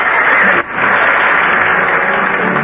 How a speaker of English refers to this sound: Duke's the one that deserves the applause. Well, you better take him back for your bow.